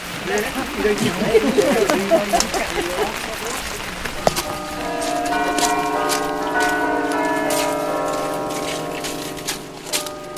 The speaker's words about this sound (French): Mais à cause de la chaleur, les cloches sont à nouveau fondues. Et donc, les Gruyériens les ont à nouveau refaites le plus vite possible. Et depuis, ils disent que ce sont les plus belles, le plus beau carillon de la région.